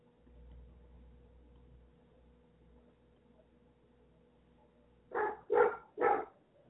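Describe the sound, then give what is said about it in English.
A Golden Retriever Australian Shepherd mix dog lets out three quick, loud barks at birds near the end, after several seconds of quiet low background hum with no talking. “I have a Golden Retriever Australian Shepherd mix, which is who you hear barking at the birds.”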